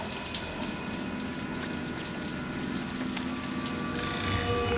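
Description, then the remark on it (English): A shower runs steadily, a dense, continuous hiss of falling water that swells slightly louder near the end. No voices are heard. “That night, Cindy's taking a shower.”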